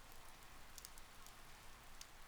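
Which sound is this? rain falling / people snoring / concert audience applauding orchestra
rain falling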